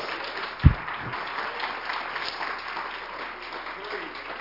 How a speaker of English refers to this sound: Somebody give Jesus a hand clap.